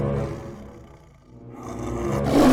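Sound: tiger roaring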